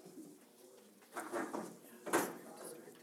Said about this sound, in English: I'm going to go ahead and shut this door because the talking distracts me, and my ear being the way it is, I'm distracted enough the way it is.